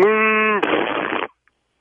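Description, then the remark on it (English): A voice imitates a buck-toothed cow's moo: a short, steady droning tone that breaks into a raspy, spluttering blurt, loud, then stops abruptly. “What does a buck-tooth cow sound like?”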